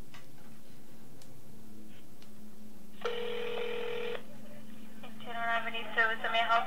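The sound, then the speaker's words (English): A phone line ringing on an outgoing call: one steady ringback tone lasting about a second, then a second brighter, warbling ring starting, heard over a low background hum. “Okay, if we can actually get them on the phone.”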